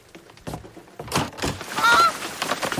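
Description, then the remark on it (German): A greylag goose cackles and honks in a rapid, harsh series of loud calls, building to a strident burst near the end with no one speaking. “Oh, wer schnattert denn da?”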